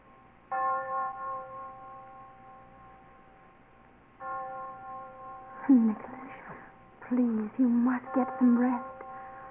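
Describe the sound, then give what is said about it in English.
A church bell tolls twice, each stroke a long, resonant humming tone that lingers for several seconds; during the second ring a man begins speaking over the fading hum. “She said it was a heavenly bell that would ring for us until death.”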